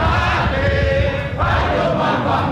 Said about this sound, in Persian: وقتی رأی دادگاه عالی روز جمعه اعلام شد، رقیب آقای کنیاتا از حزب اپوزیسیون، رایلا اودینگا در دادگاه حاضر بود و هواداران او با پایان جلسه دادگاه فریاد شادی سر دادند.